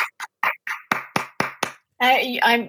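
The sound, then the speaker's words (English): A single person claps about eight times in a quick, slightly uneven rhythm, the sharp smacks growing louder, then a voice briefly speaks or laughs. “I'm giving you applause.”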